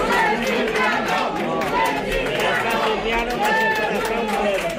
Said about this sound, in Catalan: L'extrema dreta va intentar liderar la protesta d'unes 200 persones que van interrompre el ple municipal amb crits contra l'alcalde, que és d'Esquerra Republicana.